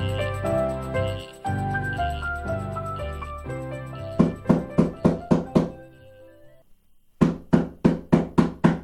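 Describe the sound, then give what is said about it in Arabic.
Two sharp bursts of knocking on a door, each about six or seven quick, evenly spaced raps, loud, separated by a short silence. Soft background music plays before and under the first burst. Someone is knocking at the door of a family's home. “تعال وافتح الباب يا بني.”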